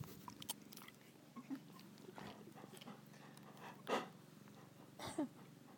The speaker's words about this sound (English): Let me eat my carrot, will ya?